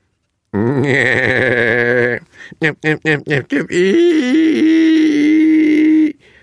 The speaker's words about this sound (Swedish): Vad var det? En häst? En åsna? Eller gris som lät så där? Försiktigt kikade de fram. Åsnan skrek som en gris, och det var just vad den blev förvandlad till.